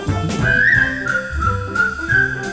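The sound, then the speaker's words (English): A person whistles a bright, wavering melody with sustained notes over light instrumental accompaniment, the whistle clear throughout. “Come on, get smart and tune up and start to whistle while you wait.”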